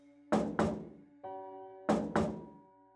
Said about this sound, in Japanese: それは玄関のドアから私を見ているのだ。そして時折伺うようにドアをノックする。